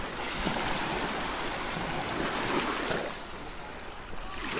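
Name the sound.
waves lapping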